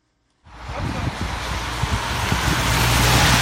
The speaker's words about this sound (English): Cars whip quickly around the curvy mountain roads as rain falls on a chilly day in Ventimiglia, Italy. We are at the country's border with France.